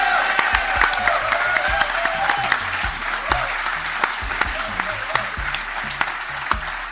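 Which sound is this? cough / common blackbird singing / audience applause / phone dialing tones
audience applause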